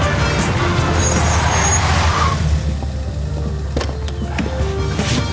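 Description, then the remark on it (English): A car engine rumbles steadily on the road around 6 a.m. as a police team steps into the road in front of it, a continuous low drone with a few faint clicks and knocks near the end, and no one speaking. “Jean and his team step into the road in front of Daniel's car.”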